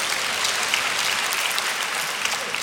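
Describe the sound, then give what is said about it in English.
A crowd applauds steadily for happily married couples, a dense wash of many hands clapping at once with no pauses, holding an even loudness throughout. “Can we clap for these happy couples?”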